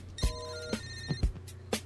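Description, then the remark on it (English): A telephone line rings through a three-way call connection to a phone company: steady electronic tones hum beneath a series of sharp clicks, fairly quiet, with no one speaking. “Someone's just forwarding, three-waying phone companies on with us.”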